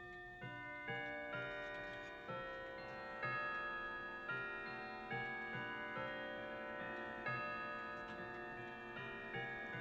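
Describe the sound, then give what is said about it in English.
A clock ticks in a steady, regular rhythm while sustained bell-like chime tones ring over it as it chimes the hour, meant to be eight o'clock, with no voices present. “See what it chimes. It's meant to be 8 o'clock now.”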